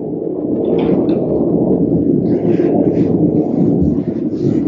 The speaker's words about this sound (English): That was a jet plane. Where I'm near Luke Air Force Base.